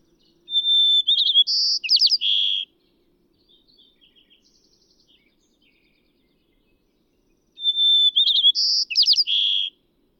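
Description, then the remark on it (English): A white-crowned sparrow sings twice, each song a clear whistle leading into rapid buzzy trills, loud, with faint scattered chirps in the quiet gap between. “What follows are four different white-crowned sparrow dialects, one song played of each.”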